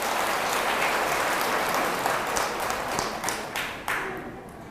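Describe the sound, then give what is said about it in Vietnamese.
A crowd at a temple applauds steadily, a dense wash of many hands clapping at once, holding strong before gradually thinning and tapering off toward the end. “Đáng khen vậy, 98% là cho một tràng vỗ tay thật lớn.”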